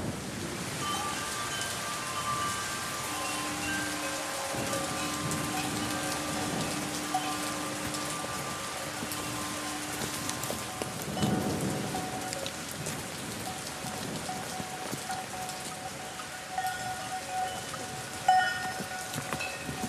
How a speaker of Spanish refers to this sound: Está lloviendo por obra y gracia de José.